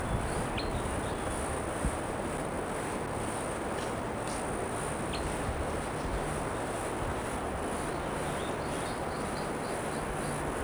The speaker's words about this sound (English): There's flight calls on a crossbill coming from somewhere here. No sign of a bird. Probably a couple birds around.